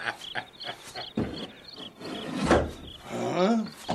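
wooden door being opened

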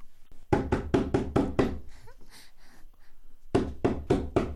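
knocking on a door

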